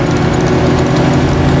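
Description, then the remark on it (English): A woman pulls up the e-brake lever of a Mustang with a brief, loud ratcheting sound over the steady low rumble of the idling engine, readying the car to launch in launch mode. No one speaks. “Okay, but again, all she's doing is she's now pulling the e-brake.”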